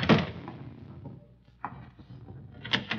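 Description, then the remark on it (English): A front door is opened with a sharp clatter, then two more bumps and rattles of the door and its hardware follow over the next few seconds. No one speaks. “Excuse me, I'll see who's at the front door.”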